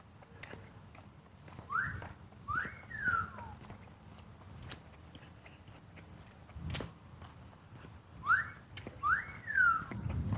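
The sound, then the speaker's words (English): Two pairs of rising-and-falling whistles, each pair a quick upward note followed by a swooping one, repeated after a pause, over low rumbling outdoor noise and faint clopping or footstep sounds. “Interesting whistle sound. Wonder if that's somebody's parrot.”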